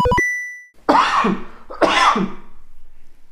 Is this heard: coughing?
yes